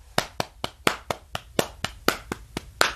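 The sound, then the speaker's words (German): Hands slap thighs to show a song's drum beat in a quick, steady drum-like rhythm, about a dozen sharp, dry smacks with some hits accented louder than others, played alone with no talking. “Soll ich das auf meine Schenkel klatschen? Da hört man das?”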